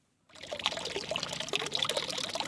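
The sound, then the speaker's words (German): Water pours and splashes steadily into a plain rectangular concrete basin of an original stone fountain at a farmhouse in Gommiswald on the Ricken, a continuous bright trickling and plashing that starts abruptly after a brief silence and holds at a moderate level. “Wasser plätschert in ein unauffälliges, rechteckiges Betongefäß.”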